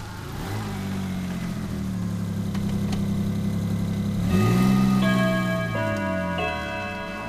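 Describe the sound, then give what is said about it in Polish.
A car engine hums steadily from inside the vehicle as it drives to a school, its low drone rising in pitch partway through as it accelerates, then settling back. No one speaks. “Z tym, że one jechały rowerami, my pojedziemy samochodem, ale dokładnie będzie to ta sama trasa.”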